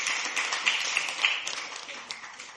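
A crowd in a large room claps together, a dense, steady patter of many hands with scattered sharper claps, easing off slightly toward the end.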